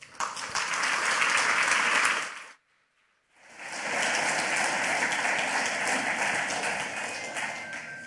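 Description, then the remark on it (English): Steady, dense applause from a large crowd welcoming the next speaker at a talk on Tor and censorship, broken by a brief silent gap of about a second before the clapping resumes just as full and continues to the end. “Please give him a warm round of applause.”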